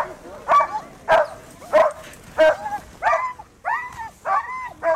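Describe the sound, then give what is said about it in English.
Cody Strath's excited sled dog team barks and yelps over and over in quick succession on arriving at the Quest race's halfway point in Dawson City, loud, with high-pitched, whining barks coming in a steady, eager rhythm. “Strath arrived at the race's halfway point in third place with an exuberant team that did not stop barking.”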